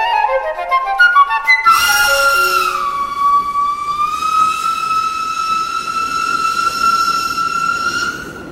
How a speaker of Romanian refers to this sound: Când sosi trenul, apostol dădu mâna cu Vidor și apoi cu fata.